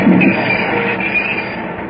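vehicle, train stopping at station

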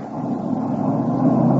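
vehicle, car speeding past

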